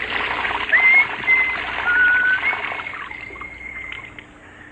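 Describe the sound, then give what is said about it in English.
Shower water runs in a steady hiss with a few faint high whistling tones riding on top, easing slightly softer toward the end. No one speaks. “Major Hall stepped out of the shower, reached for one of the towels on the rack.”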